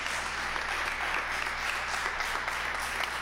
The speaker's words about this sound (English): And as you take your seats, put your hands together and just give the Lord a hand clap of praise. Amen.